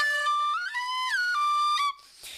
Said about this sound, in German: Die Leute, die gucken, oh, schau mal, eine echte Schlange aus Haut und so. Ja, super. Die kann ja machen mit ihrem Körper. Und die macht das nur, weil der mit der Pfeife pfeift.